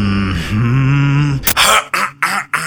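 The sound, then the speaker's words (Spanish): An exaggerated, theatrical throat clearing in the manner of a businessman or corporate woman looking over a commercial contract: a drawn-out voiced 'ahem' hum followed by several sharp, raspy clears in quick succession, loud. “Y carraspea en tono de un hombre de negocios o una mujer corporativa, pero cuida de no leer más de 3 frases de este contrato leonino diciendo: ajá, sí, está bien, está correcto.”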